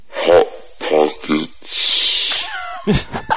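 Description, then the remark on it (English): A recorded bird call: a few raspy, voice-like squawks followed by a long breathy hiss and a thin wavering whistle, then another harsh rasping burst. “I happen to have a recording of that bird, if you want me to play it.”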